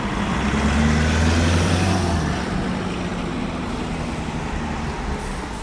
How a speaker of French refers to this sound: Il y a une voiture qui me double à droite, donc il va falloir savamment se placer au prochain feu, en faisant gaffe aux voitures qui arrivent par derrière, pour pouvoir quitter la place.